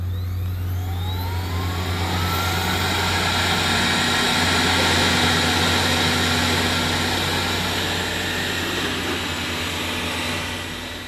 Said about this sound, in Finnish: Näin käynnistyy robotti Imuri